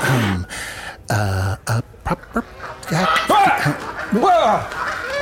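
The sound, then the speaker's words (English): Geese by a bar give loud honking calls in short harsh bursts at someone walking up, followed by a rapid run of squawks and rising, wavering cries that sound agitated and aggressive, with no clear talking. “These geese are fucking pricks.”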